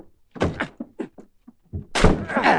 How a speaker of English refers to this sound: This is the only door, Mr. Chameleon. Let's break it in